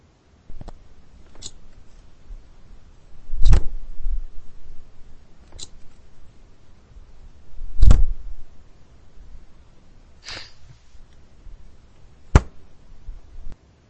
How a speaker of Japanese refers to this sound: うん、これはですね、正解は、冷蔵庫のドアを開けて閉めると き。冷蔵庫なんだ、これ。